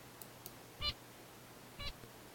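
Two short, separate song syllables from a bird, the first sung while it had juice and the second while it had alcohol, each a brief harmonic burst about a second apart, heard alone against a quiet background.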